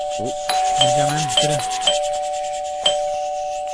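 A doorbell rings with a steady, sustained electronic tone, punctuated by several bright chime strikes at uneven intervals, while a voice briefly talks over the ringing.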